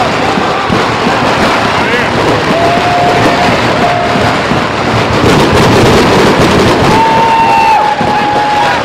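Firecrackers pop and crackle steadily through a loud, noisy outdoor crowd at the stroke of midnight on New Year's, with a few whistling tones rising above the din and a denser flurry of bangs toward the end.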